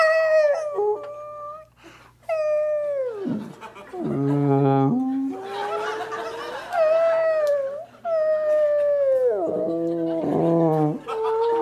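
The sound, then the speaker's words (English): Long, mournful whale calls sweep up and down in pitch, a series of drawn-out moans and falling wails with short gaps between them, loud over a faint low hum. “He's got a pencil, and he deciphers the whale noises as he hears them.”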